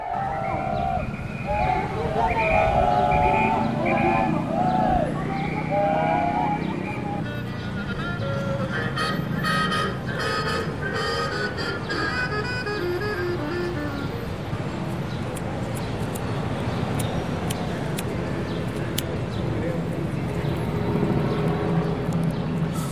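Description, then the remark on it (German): Street ambience in Mexico City on a Wednesday midday, with a demonstration and street vendors selling their goods. A steady rumble of traffic, a continuous wash of mixed noise, and bright chirping or whistling tones in the first several seconds, plus scattered clicks and clatter throughout. “Die Megametropole Mexiko-Stadt an einem Mittwochmittag. Alles wie immer. Straßenlärm, eine Demo gegen gewaltsam Verschleppte, Händlerinnen und Händler verkaufen ihre Ware.”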